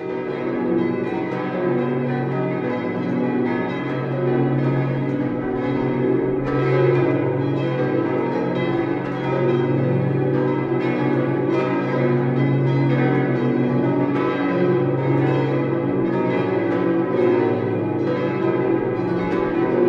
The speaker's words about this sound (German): begleitet den Besucher auch der Glockenklang dieser Zeit, der Ruf der Heinrichsglocke oder die Stimme der Kunigundenglocke. Sie gehören wegen ihres Alters, ihrer Größe und vor allem wegen ihres Klangs zu den bedeutendsten Glocken des Mittelalters.